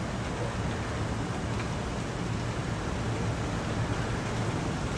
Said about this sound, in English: It is starting to rain, so maybe I can get some of this sound. Can you hear that?